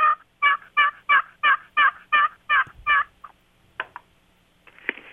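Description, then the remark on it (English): A turkey call, played over a speakerphone, gives a steady run of about nine raspy hen yelps, fairly loud, followed by a few short, sharp clucks spaced apart with quiet between them. “This is just a clock, it's just a simple note. And then a basic hen yelp is two or three notes.”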